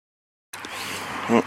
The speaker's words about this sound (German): Ja, Autos. Auch damit man einfach mal wieder sieht, wie es anderswo... Auch dieses Geräusch dabei.